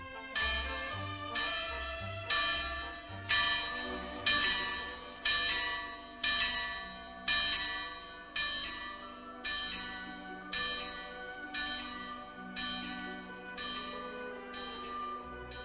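A church bell in Girona, hung in 1574, strikes the hours repeatedly in a steady rhythm, about once a second, each loud, resonant toll ringing on and overlapping the next. No voices are heard.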